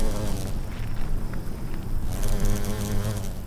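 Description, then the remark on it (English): Bees buzz steadily, their droning hum wavering in pitch, while a dry hiss of cicadas fills the background of a lush green lawn and garden of native plants in McKinney, during record heat. “There are cicadas, birds, and even bees buzzing about his garden.”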